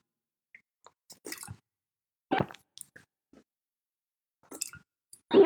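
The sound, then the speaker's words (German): Exaggerated, loud gulping while drinking water, close to the microphone: a string of wet swallows, clicks and plops in irregular bursts, ending in a heavy, strong gulp. A person is deliberately overdoing the sound, imitating how another person drinks. “Der schluckt unglaublich laut.”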